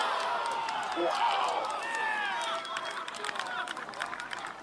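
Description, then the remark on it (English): A golf crowd erupts in cheers for John Rahm's putt made from 66 feet out in a playoff at the BMW Championship, a sustained, dense roar threaded with high shouts and whistles that holds steady at full volume throughout. “Some crowd for that made shot from John Rahm.”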